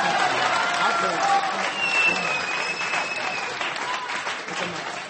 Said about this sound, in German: Jetzt, Moment mal. Ja, Applaus, Herr Dörfer.